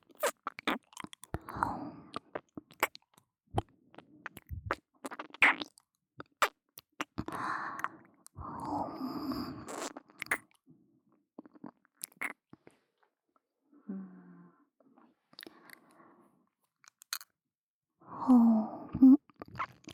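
Wet ASMR licking and smacking mouth sounds come in short bursts, alternating with soft, breathy exhales and sighs, with quiet pauses between and no speech.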